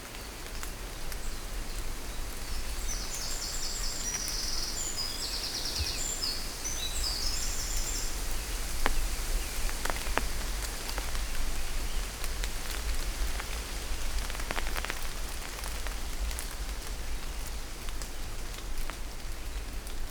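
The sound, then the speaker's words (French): Steady rain patters through a forest, a dense, even hiss with occasional sharper drops, while a few faint high-pitched bird chirps flutter briefly near the start. “Vous êtes posé au cœur de la forêt.”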